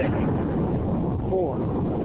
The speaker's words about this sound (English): The rocket is on its own. Four brave explorers ready to ride the most powerful rocket NASA has ever launched. Sound suppression, water is flowing. 15. And here we go. 10, 9, 8, 7. RS-25 engine.